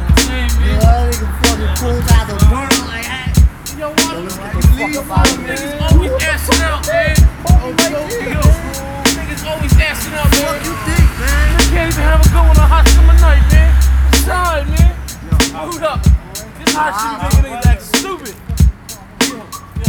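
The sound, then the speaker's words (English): Skateboard wheels rumble across pavement, broken by frequent sharp clacks and pops from tricks and landings, while people talk and shout. “Hey, yo, yo, it's time to skate.”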